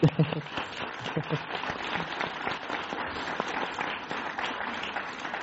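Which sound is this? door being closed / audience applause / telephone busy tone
audience applause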